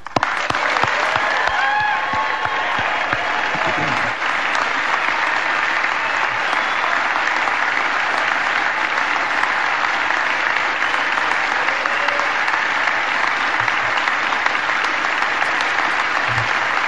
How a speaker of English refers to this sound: All right, Harmon Killebrew just hit his 574th home run. And I want to hear the roar of the crowd. And he wants to hear the roar of the crowd. Please.